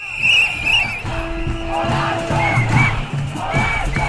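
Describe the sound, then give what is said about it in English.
A noisy crowd of striking GPs (family doctors) chants and shouts at a street protest in France, with shrill whistles blowing over the din and a steady amplified bullhorn tone droning underneath. “A national diagnosis requires bullhorns and whistles.”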